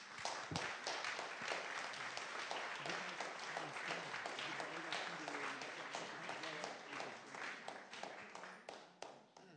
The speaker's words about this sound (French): On peut l'applaudir.